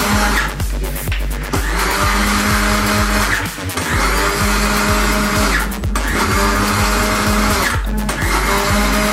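A blender mixes sauce ingredients, including a spoonful of white pepper. It runs loudly and continuously, its motor whirring in steady bursts with brief dips and pulses as the ingredients churn inside, with no voices.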